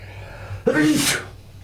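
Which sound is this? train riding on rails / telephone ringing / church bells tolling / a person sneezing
a person sneezing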